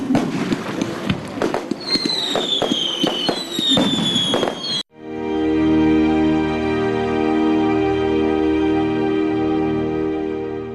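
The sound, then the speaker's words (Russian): A festive fireworks salute over the Sura river, held by long tradition at the end of Epiphany bathing, bursts loudly in a rapid string of booms and crackling pops, with whistling streaks rising overhead, for about five seconds before giving way to a steady, droning tonal sound. “На Суре также по многолетней традиции прогремел праздничный салют.”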